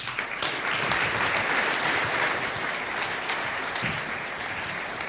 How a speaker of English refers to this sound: So give them a warm applause.